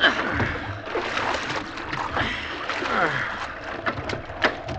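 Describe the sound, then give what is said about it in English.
Water sloshes and splashes inside a small boat at sea as the cook bails it out on the captain's order, with irregular scooping splashes over a steady wash of moving water. “Bail here, Cook.”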